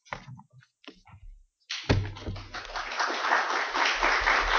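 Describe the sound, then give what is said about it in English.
An audience breaks into applause, starting with a few scattered claps and swelling into steady, dense clapping from a room full of people that continues to the end. “Oh, it's nice to get applause.”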